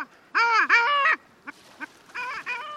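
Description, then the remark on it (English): A long-tailed duck's nasal, yodeling calls: two loud drawn-out wavering notes, then two short clipped yelps and a final rising call, clear with no talking. “And finally, the nicknames for the long-tailed duck that mimic the bird's call.”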